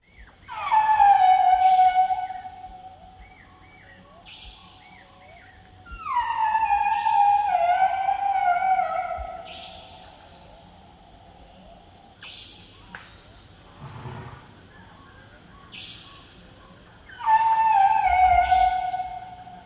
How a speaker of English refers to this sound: Elephant Bill worked with Asian elephants, and we have a recording from March 1999 in Nepal by animal recordist Linda McCauley of the sound of the Asian elephant.